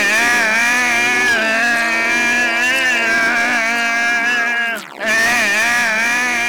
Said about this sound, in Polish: Zlutował je razem i wyjechał na drogę, wciskając gaz do dechy.